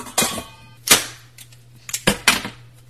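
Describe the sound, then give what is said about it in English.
A can opener opening a can of condensed cream of potato soup: a few sharp, crackling metallic snaps and clicks, the first with a brief ringing tone, spaced irregularly over a faint steady low hum. “Now, it's got this handy thingy on the top, and I'm going to use the can opener because I never get to use it. Open that up.”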